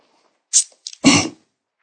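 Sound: sneeze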